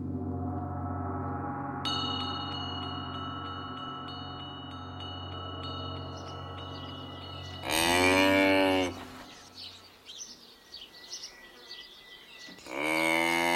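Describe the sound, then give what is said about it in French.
A cow moos in long, loud, low drawn-out calls, with a couple of shorter bellows later on, set against a quiet outdoor background with faint high insect-like chirping. “La vache est l'un des premiers animaux de la ferme que l'on apprend à reconnaître aux enfants.”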